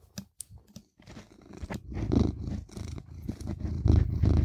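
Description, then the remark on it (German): A cat sitting on a person's lap purrs, a steady low rumbling that swells louder over a few seconds, preceded by a few sharp scratchy clicks at the start as it scratches at a microphone pop filter. “Oh, Katze. Ich dachte gerade, wer kratzt da an seinem Popschutz?”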